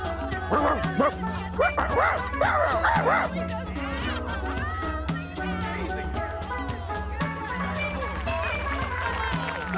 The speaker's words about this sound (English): And now, Cleo the Dancing Dog! Ta-da!